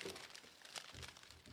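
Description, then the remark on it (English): Pieces of newsprint standing in for a comic book are crumpled, a dense run of crisp crackles and crinkles with no one speaking. “Or crumpled.”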